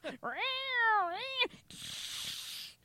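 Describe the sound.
A person imitates an angry cat with a long, wavering yowl that rises and dips, followed by a harsh breathy hiss, fairly loud.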